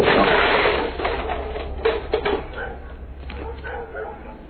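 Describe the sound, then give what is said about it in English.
Dogs bark in a few short, scattered bursts over a noisy background with a steady low rumble, the barks fairly loud. “Fucking ass dogs.”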